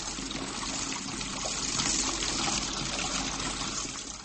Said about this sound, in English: Yes, it's a sound we hear every day. Water running from a tap.